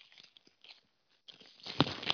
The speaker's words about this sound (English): That's me taking off the wrapper to my Arrow collection of Tremors.